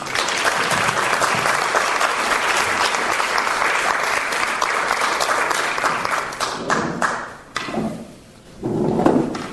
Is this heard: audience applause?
yes